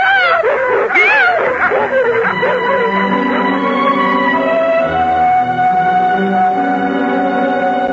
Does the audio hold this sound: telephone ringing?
no